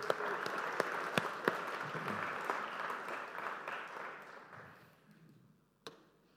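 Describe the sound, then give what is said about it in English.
A crowd applauds with dense, steady clapping and a few sharper claps standing out, then the applause thins and fades over the last seconds, ending with one isolated clap. “Can you give these guys a round of applause, please?”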